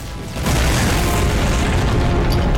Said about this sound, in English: A huge explosion rips through the castle.